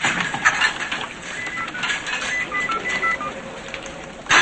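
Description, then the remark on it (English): In a film scene, Smith dials a phone number in his office: a quick run of short touch-tone beeps, fairly clear, over a steady hissy background with no one speaking. “Smith dials, then sees Gray and Darby walking toward his office.”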